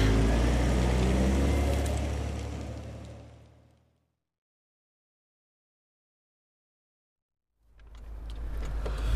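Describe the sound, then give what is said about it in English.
Inside a car, a low engine rumble and a steady rushing blower hiss fill the cabin, drop into several seconds of silence, then come back at full strength. “The blower's useless on this car.”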